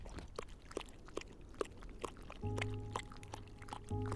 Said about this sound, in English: He fills a portable water bowl. The cub drinks.